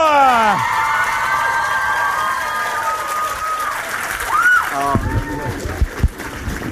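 A crowd cheers and whoops loudly over sustained applause for a performer coming on stage, with high shouts and whistles rising and falling throughout; sharper claps and thumps break through near the end.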